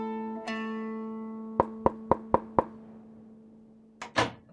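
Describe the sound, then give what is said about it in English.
Five crisp, evenly spaced knocks by hand on a wooden hut door ring out over a steady humming drone, followed a moment later by a brief, louder clatter. “She lifted her crinkly hand and knocked on the hut's door.”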